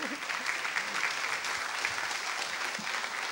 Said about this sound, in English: And we also want to clap, please.